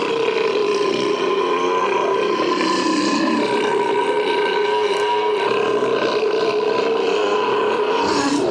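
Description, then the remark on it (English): A long, drawn-out burp in a food court, loud, holding a rough, croaky tone for several seconds without a break. No one talks over it. “Oh my God, I got to burp. And okay, I'm going to burp.”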